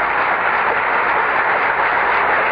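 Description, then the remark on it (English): Sustained applause from a large standing audience in the East Room of the White House as Gerald Ford makes his way in, a dense, steady wash of many hands clapping at once with no breaks, fairly loud and muffled in the treble. No one speaks over it. “Past the applauding standing members of the audience.”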